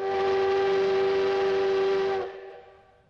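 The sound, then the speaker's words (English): A loud, sustained steam train whistle blows steadily for about two seconds over the rumble of a moving train bound for Seoul, then cuts off as the train noise fades away. “got on a train to Seoul that evening.”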